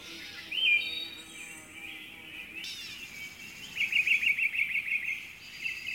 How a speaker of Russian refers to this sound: Слышишь, малыш, как птички в лесочке поют, разговаривают, и зайчишка с ежиком о чем-то толкуют.